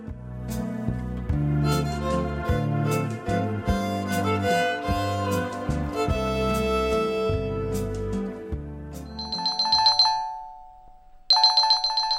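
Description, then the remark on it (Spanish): After several seconds of music, a loud electronic telephone ring sounds twice, each burst a bright trilling tone with a short pause between them. “Estaba en un profundo sueño cuando sonó el teléfono.”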